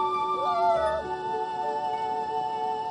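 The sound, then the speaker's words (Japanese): A harp seal pup weighing about 8 kilograms, left alone after its mother went into the sea, cries with a long, wavering, nasal wail that bends in pitch early on and then holds steady for the full three seconds, clear with no talking. “ほら、ご覧ください。これがタテゴトアザラシの赤ちゃんです。”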